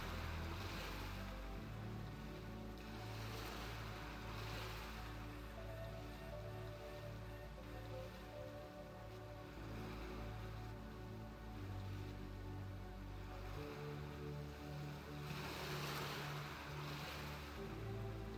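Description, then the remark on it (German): Ocean waves roll in and wash out in slow, steady surges, a continuous hiss of surf swelling every few seconds, layered over a soft, sustained musical drone with no voices. “Du kannst das gleichmäßige Auf und Ab der Wellen betrachten und der Rhythmus des Meeres bringt dich zur Ruhe. Auf und ab bewegen sich die Wellen.”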